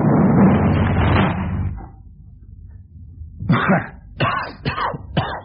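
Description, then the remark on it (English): A loud, booming explosion in an office roars for over a second and dies away, blowing the top off a desk, then after a short lull come several sharp cracking knocks, like splintering wood and falling debris. “Dear, your desk. What a mess. Blown the top right off.”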